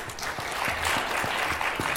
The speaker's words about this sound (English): Thank you very much for your patience. Amen. Why don't we give them all a hand clap again?